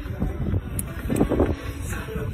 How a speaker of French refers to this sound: On n'entend rien. On entend juste du vent.